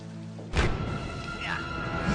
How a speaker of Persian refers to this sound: مجبورم تا بند اومدن بارون همینجا بمونم.